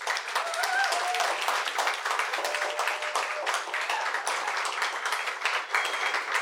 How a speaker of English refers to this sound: And I want to thank all our storytellers and all our musicians. Let's hear another clap.